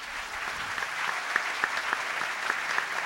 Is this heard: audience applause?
yes